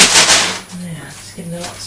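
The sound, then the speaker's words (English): Honey Loops cereal, gone a bit sticky, is poured from a box: a loud, dry rattling rush for about half a second, then fading as a person's voice speaks briefly. “I want to pour them out. All right, this will make a noise now.”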